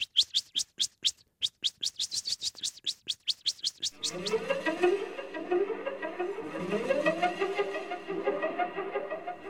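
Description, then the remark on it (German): A blackbird's sharp, shrill alarm call at an approaching cat: a rapid, insistent series of high ticking notes for several seconds, then giving way to denser, fuller birdsong. “Das kann ich gar nicht so scharf und so schrill, wie die Amsel das kann.”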